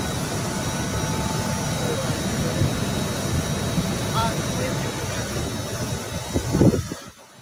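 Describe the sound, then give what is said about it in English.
Rolls-Royce jet engines of President Trump's plane roar loudly and continuously as he leaves after a rally, a dense, steady rush that drowns out everything else, with faint indistinct voices buried underneath before it cuts off abruptly. “The Rolls Royce plane engines are quite loud.”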